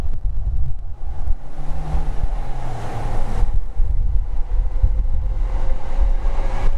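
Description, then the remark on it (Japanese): A train rumbles past in a steady, loud roar, with a low droning hum and a faint whine riding above the heavy rolling noise. No one speaks. “これ今電車の音がね。京浜東北線かな、あれ。”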